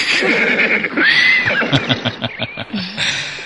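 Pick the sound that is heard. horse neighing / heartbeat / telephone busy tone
horse neighing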